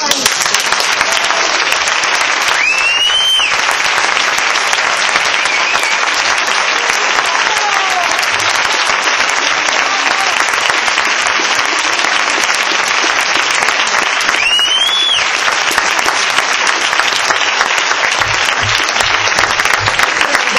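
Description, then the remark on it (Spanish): Sustained, loud applause from a large audience at a congress fills the whole stretch, a dense steady roar of many hands clapping without pause, with a few brief whistles cutting through. “Sin duda lo emocionante es que si aplaudís es porque pensáis que también es mi congreso.”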